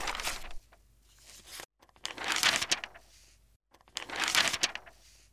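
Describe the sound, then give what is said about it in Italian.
Crisp paper crinkling and rustling as a child in his bedroom handles and folds a new sheet of newspaper to make a paper toy, in three bursts separated by brief pauses, fairly loud, with no talking. “Poi, siccome è un tipetto caparbio e non si arrende così facilmente, mette anche l'aeroplano sul pavimento della sua cameretta e ricomincia con un nuovo foglio di giornale.”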